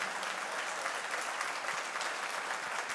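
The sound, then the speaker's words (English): An audience claps steadily for the church's pastors, a dense wash of many hands at an even, fairly loud level throughout, with no voices standing out. “Let's hear for”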